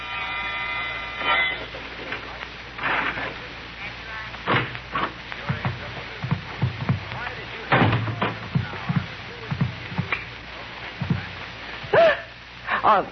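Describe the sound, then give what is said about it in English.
A key scrapes and turns in a door lock at about midnight, with a run of sharp metallic clicks and rattles, a few dull thumps from the door, and a brief steady tone at the start. “The sound of a key in the lock of the door.”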